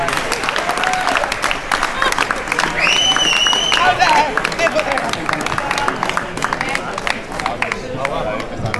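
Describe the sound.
An audience bursts into sustained applause, dense rapid clapping filling the whole stretch at a steady, fairly loud level, with a few whoops and cheering voices rising briefly over it.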